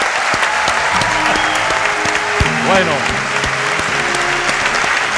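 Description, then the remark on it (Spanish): An audience applauds steadily throughout at a live radio event in the aula magna of the Aulario César Manrique at the oldest university in the Canary Islands. A dense, even patter of many hands clapping, with background music underneath and a voice briefly speaking over it. “estos aplausos y con esta música de fondo es maravilloso.”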